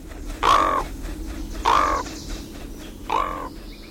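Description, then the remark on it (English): A raven gives three loud, harsh croaking calls, evenly spaced about a second apart, standing out clearly against a quiet, faintly noisy outdoor background with no one talking. “When Raven calls in the forest, it's because he's still laughing about how clever he was.”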